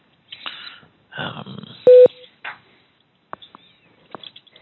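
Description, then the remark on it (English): A loud, short electronic telephone keypad tone sounds once amid rustling handling noise, followed by a few scattered clicks and faint beeps, as buttons are pressed on a cell phone to place a call. “I just dropped out. I'm calling on the cell phone now.”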